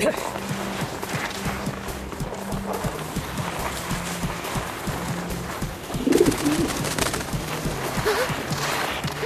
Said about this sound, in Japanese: あんなところに鳩が。 アムリーシ大佐の鳩か。